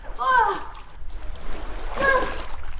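Water splashing and churning close by as someone swims in open water, with brief vocal exclamations rising over the steady sloshing.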